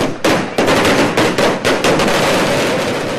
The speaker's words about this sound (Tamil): நேற்று உச்சநீதிமன்றத்தின் தீர்ப்பு வெளிவந்த சில மணித்துளிகளில் தூத்துக்குடியில் பொதுமக்கள் பட்டாசு வெடித்து இனிப்புகள் வழங்கி தங்கள் மகிழ்ச்சியை வெளிப்படுத்தினர்.